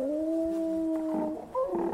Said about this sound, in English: That's it. That's the sound I heard. The hound! The beast approaches.